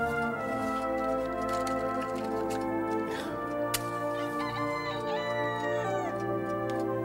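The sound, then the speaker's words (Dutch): An alarm clock goes off at six o'clock, a dense, steady, loud jangling ring that carries on unbroken for the whole stretch, with a slight wavering in pitch partway through. No one speaks. “Het was een wekkert.”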